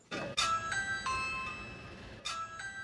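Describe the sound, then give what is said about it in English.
A doorbell chimes in a quick run of ding-dong tones, then sounds once more after a pause, each note ringing and fading with a clear, bright resonance. Nobody speaks. “And there's a lot of, you know, knocking on doors, doorbells.”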